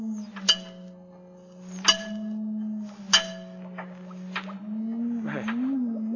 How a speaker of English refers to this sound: Now, notice what happens when I tap on the glass jar.